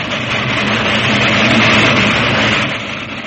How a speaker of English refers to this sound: Hey, little girl, keep away from the line. There's a train coming. Hey, keep away. Hey there. Get away. You'll be run over. Look out for the train! Look out!